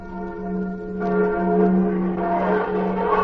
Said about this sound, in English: Now that the Liberty Bell's fixed up again, Rem Kiddiddlehopper will now pull the rope and ring it for us. Well, go ahead, Clem. Let her ring.